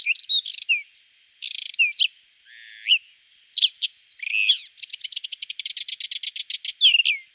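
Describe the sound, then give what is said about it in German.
A whinchat sings with no voices around: varied scratchy chirps and short whistles, then a fast, evenly pulsed run of notes before a final warble. “Wenn du auch beim Braunkehlchenschutz helfen möchtest, gibt es von der Landschaftspflegevereinigung Glan-Dill ein Patenschaftsprogramm.”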